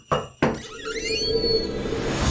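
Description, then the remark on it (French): Two sharp knocks in quick succession, then a door creaks open with a drawn-out, rising squeal of the hinges, loud, with no voices. “C'est l'heure d'ouvrir une porte.”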